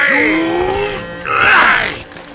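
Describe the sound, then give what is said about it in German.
Three men grunt and strain as they lift a heavy crate out of a car trunk: a drawn-out groan followed by a louder, rougher strained grunt, clear with no words spoken. “Die drei hoben die schwere Kiste heraus und ließen die Klappe des Kofferraums wieder zufallen.”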